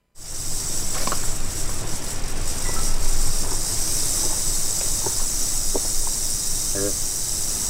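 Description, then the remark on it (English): A rattlesnake encountered in nature during a fall 2021 hike rattles steadily in a rapid, dry buzzing hiss that holds for the whole stretch, with faint outdoor background sounds and a few brief clicks scattered over it. “Okay, we wanted to play that because I imagine not all of our listeners have actually heard a rattlesnake in nature.”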